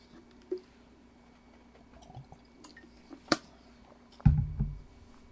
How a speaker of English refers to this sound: Now, let me get a drink of water here.